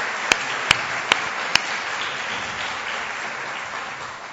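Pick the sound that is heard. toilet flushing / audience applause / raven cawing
audience applause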